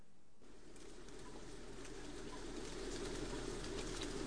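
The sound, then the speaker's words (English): A screech owl calls with soft, low single notes, faint beneath a steady hiss of rain on a night recording; no one speaks. “But yeah, it's interesting that the screech owls just appear to be so common here. And I actually have a recording of one of those also.”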